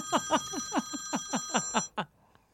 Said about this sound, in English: Hello? Hello? What was that ring?